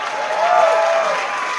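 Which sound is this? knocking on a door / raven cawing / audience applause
audience applause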